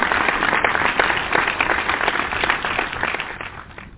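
A crowd claps steadily, many overlapping hand claps forming a dense, loud patter with no voices, then the applause thins and fades slightly toward the end.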